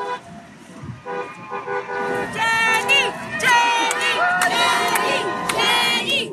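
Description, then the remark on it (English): A large crowd, maybe hundreds of people holding signs, cheers and shouts in Central Park, New York, greeting a woman on her arrival, many voices overlapping in high, excited calls, with toots and whoops rising louder after the first couple of seconds and staying loud throughout. “there's a crowd, maybe hundreds of people strong, holding signs, waiting in Central Park to greet her.”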